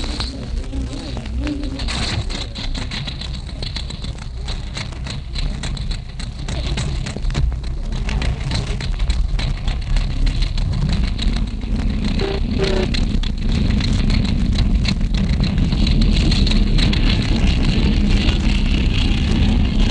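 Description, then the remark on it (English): A propeller aircraft engine is started by helpers winding it up on the call "contact", a low rumbling drone that grows louder and thicker partway through, then holds at a steady roar with faint chirps and rattles over it. “All right, fellas, wind her up and let's get going. Okay, contact!”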